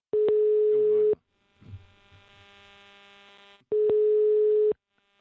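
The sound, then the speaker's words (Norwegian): Two steady electronic ringback tones, each about a second long, separated by a pause with a faint hum and soft rustling, heard clearly as an outgoing phone call to Herbjørn Hansson rings. “Ja, vi kan prøve å ringe den.”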